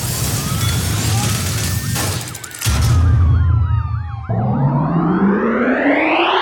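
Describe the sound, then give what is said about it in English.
A police siren wails over heavy traffic rumble, its tone shifting from a rising sweep into a rapid warbling yelp, then a steady rising whoop as engine noise swells. “Here comes the fuzz.”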